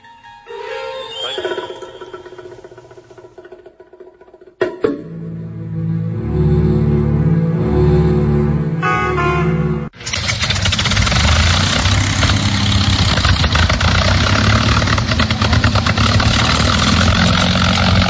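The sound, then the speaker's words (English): A V12 Rolls-Royce Merlin engine on a P-51 Mustang aircraft coughs to life, settles into a loud, throbbing idle, then surges into a sustained full-throttle roar, without any talking. “If you know what that sound is, that's a V12 Rolls-Royce Merlin engine on a P51 Mustang in honor of Bob Hoover.”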